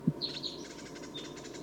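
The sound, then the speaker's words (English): Bird decoy calls: a few short, high-pitched chirps, a quick cluster early on and a thinner one later, over a steady low hum with a brief thump at the start. No one speaks. “The decoys are calling.”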